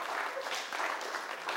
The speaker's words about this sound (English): This guy is making a six-axis Stuart platform using syringes as hydraulic pistons. Yeah, it deserves a clap for the effort, doesn't it? I mean, yeah.